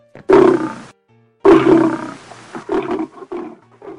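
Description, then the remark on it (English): Lions in circus cages roar loudly as the cages are pulled into the arena: two long, rumbling roars followed by a run of shorter, grunting huffs fading out, with no one speaking. “As the circus chief pulls the lion cages into the arena, I jog past, jumping over the hitch between two of the cages.”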